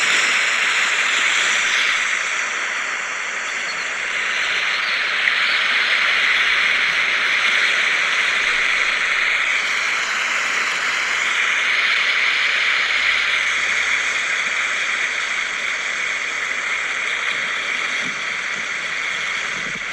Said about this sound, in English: And they're stepping out of the gentle waves. It's very calm here. Very nice. Would you like to listen to the waves? Here they are.